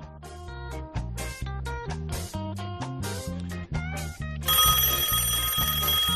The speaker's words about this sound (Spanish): ¡El teléfono! Ah, mira vos, tengo teléfono. Ay, ¿quién está en el teléfono?